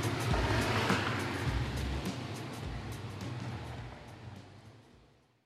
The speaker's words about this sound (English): Okay, we're back in the car. Next up, Ensenada.